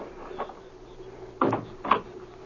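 A car door shuts with a solid thump, followed half a second later by a second, similar clunk, both fairly loud over a low, steady background hum.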